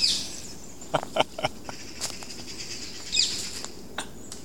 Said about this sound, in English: That's a green parakeet.